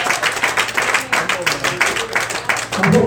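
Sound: audience clapping hands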